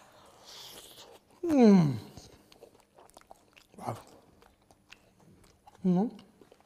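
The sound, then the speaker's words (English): Someone chews crunchy baida roti, a flatbread filled with egg and spicy mincemeat, biting the hot crust with soft crackly bites and a few wordless, appreciative vocal hums rising and falling between mouthfuls. “You know, the inside, the mincemeat is spicy, juicy, and the outside, the crust is slightly crunchy when it is hot.”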